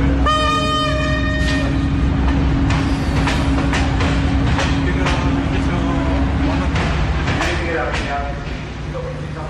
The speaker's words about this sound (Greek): Το ένα έχει ξεκινήσει περίπου στις 9.30 το πρωί από τον σιδεροδρομικό σταθμό Αθηνών, τον σταθμό Λαρίσης, και κατευθύνεται προς τα βόρεια, προς τη Θεσσαλονίκη. Είναι μια αμαξοστοιχεία που μάλλον βραδυπορεί.